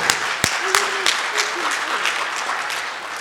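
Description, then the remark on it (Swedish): A burst of applause from a group for the clergy, dense rapid clapping with a few sharper claps standing out, while a voice speaks faintly underneath. “Vad bra att ni fick en applåd.”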